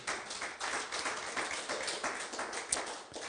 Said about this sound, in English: And so since you did, give yourselves a hand clap of praise.